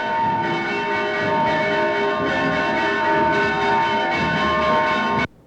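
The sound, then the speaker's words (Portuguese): Church bells of the Nossa Senhora do Rosário church ring loudly and steadily as a procession arrives, their overlapping metallic tones blending into a dense, sustained clangor that continues without pause until it stops abruptly. “Chegada na igreja da Nossa Senhora do Rosário, com os sinos tocando.”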